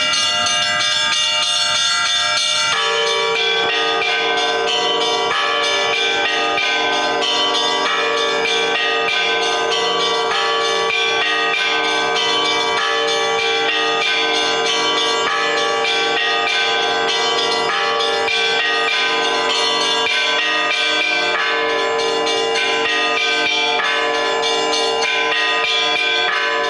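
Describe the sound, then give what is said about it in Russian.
Church bells of the Pokrovsky church, rung by its bell-ringer, ring continuously in a dense, overlapping peal, bright clanging strikes layered over a sustained metallic hum, loud throughout with no voices. “Рассказ научного сотрудника переплетался с звучанием колокольного звона, который исполнял Андрей Полей, звонарь Покровского храма.”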